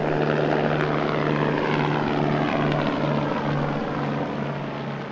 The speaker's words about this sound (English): The Valo is just one version of what's called an electric vertical takeoff and landing aircraft, or EVTOL.